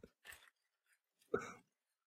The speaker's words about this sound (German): Oh, was hören wir hier? Plastik. Plastik, genau. Raschelndes Plastik.